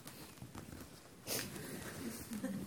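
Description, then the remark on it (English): A voice imitates hay fever sniffing: one sharp, breathy snuffle midway through, with fainter nasal sniffs around it, fairly quiet. “And I did have hay fever, and I went to the school one time with the hay fever, and I started sniffing like that.”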